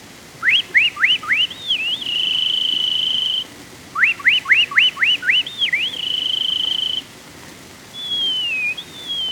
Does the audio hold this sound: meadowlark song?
yes